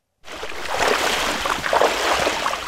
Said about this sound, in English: … and … cross a frigid rushing creek to the entrance of a manganese mine